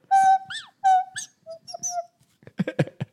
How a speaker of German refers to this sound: Das heißt, es ist eine Pfeife. Das hält man sich an die Nase und unter den Mund